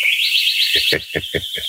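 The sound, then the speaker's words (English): A sparrow chirps, a high warbling trill that breaks into a quick series of five sharp, evenly spaced chirps, fairly loud and alone. “Yes, I agree with you, Mr. Sparrow.”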